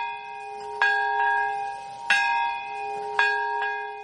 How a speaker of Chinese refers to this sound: 在当地时间上午11:02，随着钟声敲响，民众默哀一分钟。